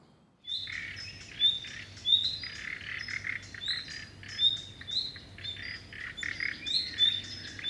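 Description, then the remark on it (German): Several birds sing together in a forest, a steady chorus of bright, repeated chirps and trills over a faint low background hum, with no one speaking. “Im Fichtenwald leben weniger Vogelarten als im Mischwald.”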